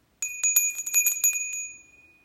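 A small bell rings in a quick flurry of bright, high strikes, as a cue to take a deep breath; its clear metallic tones sustain and slowly fade after the ringing stops; no one speaks.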